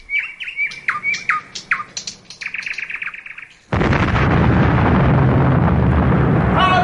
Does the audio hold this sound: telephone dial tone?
no